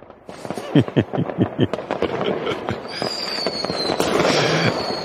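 fireworks exploding

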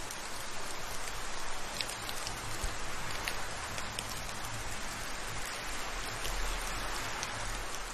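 rain falling

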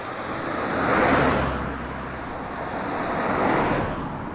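two cars passing by

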